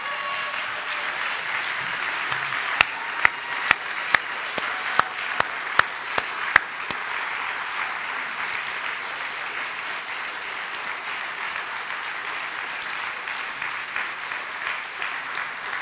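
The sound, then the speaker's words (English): A crowd at a school gathering applauds former students of the school, a steady dense wash of many hands clapping at an even level, with a few sharper individual claps standing out early on before the applause carries on unbroken. “All right, so to all of you, they're clapping for you because we're really glad you were here.”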